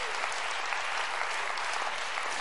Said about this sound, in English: Come on, let's clap our hands to the Lord and give him praise.